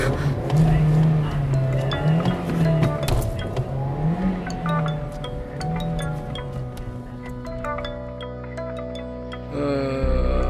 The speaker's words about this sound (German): So, jetzt muss ich Zündschlüssel, Kupplung ganz langsam kommen lassen.